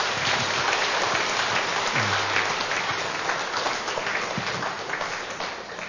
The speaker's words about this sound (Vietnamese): Chúng ta dâng lên Chúa mẹ tràng pháo tay.